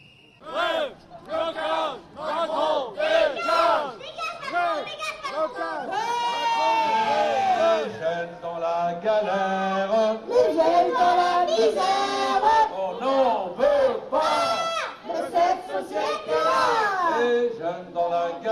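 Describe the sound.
A street protest crowd shouts and chants in loud, rhythmic bursts, voices rising into sustained cries, with shrill whistle tones from lawyers blowing hard on their whistles cutting through the middle stretch before the chanting resumes.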